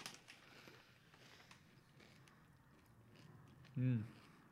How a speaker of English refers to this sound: No, it's just munching.